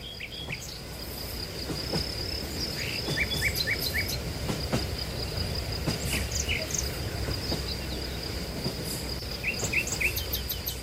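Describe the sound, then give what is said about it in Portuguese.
A train from Mandalay, carrying few passengers through countryside, rumbles slowly and steadily along the rails with low, continuous clatter, while a high insect drone and scattered chirps sit on top throughout; no one speaks. “Atravessou-se devagar pela velocidade do comboio.”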